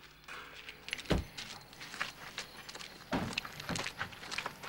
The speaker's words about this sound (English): gets out of the car and walks to the house to see what is happening.